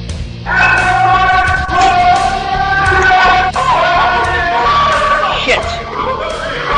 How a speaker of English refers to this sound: On the 19th of July, dozens of protesters swarmed on Huntington Life Sciences customers in downtown D.C. The protest featured the storming of Bristol-Myers Squibb.